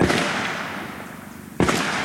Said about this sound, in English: The first time I heard gunshots in Honduras, I nearly dropped my recording gear.